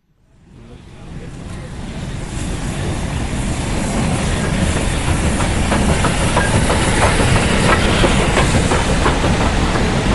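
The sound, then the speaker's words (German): A historic steam train of the Furka mountain steam railway at Realp station, Switzerland, in heavy rain, rumbles, its noise swelling from silence within a second into a loud, steady roar with faint rhythmic clacking, and no voices. “Wir sind hier direkt vor dem Bahnhof Realp, vor der Dampfbahn Furka-Bergstrecke.”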